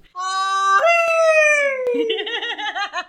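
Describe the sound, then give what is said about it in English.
A person lets out a loud, drawn-out imitation Cajun yell or Lugaru (werewolf) howl, holding a strong note that slowly slides downward, then breaks into a rapid, quavering warble for about three seconds. “Just to round us out, can you give us your best Cajun yell before we go?”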